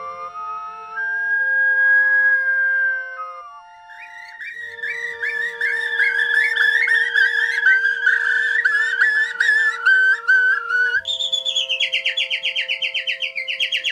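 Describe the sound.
A bird singer whistles an imitation of birdsong in a jazz piece, starting with a long held note, then breaking into rapid warbling trills and chirps, loud and continuous over steady sustained accordion and cello tones.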